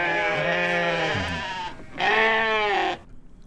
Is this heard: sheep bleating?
yes